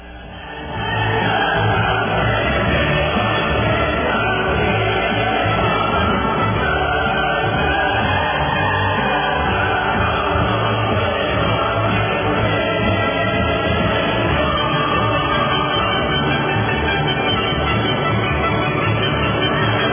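A large crowd roars with sustained applause and cheering, loud and dense from start to finish, with shouts and whoops rising through the steady wash of noise.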